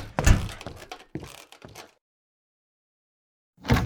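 A pantry door shuts with a heavy thunk, followed by a couple of shorter knocks and rattles. After a brief silence, another solid thud lands near the end. No one speaks.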